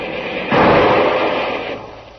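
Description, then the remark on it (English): A single shot from a Garand rifle cracks out sharply, then rolls away in a long, fading echo over about a second and a half, heard alone against a dull, muffled background hiss. “Hand me that Garand rifle, Kolo.”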